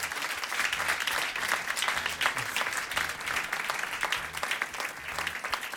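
An audience at a live radio show broadcast on Fadjet and radios in Meurthe-et-Moselle applauds steadily, a dense wash of many hands clapping at once, sustained at an even loudness for several seconds with no voices standing out.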